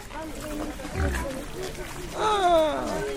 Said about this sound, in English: Still didn't hear any pigs make any sounds for us. What's a pig sound? A grunt? Yeah. Oh, look, they have English language on the signs here. That's domestic pig. That's what it's called here.